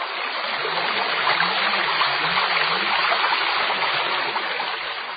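The Ōi River (Ōigawa), about 1.3 km (12 chō) wide, flows steadily, its broad rushing and babbling water noise continuous and fairly loud for the whole stretch, with no voices or other sounds.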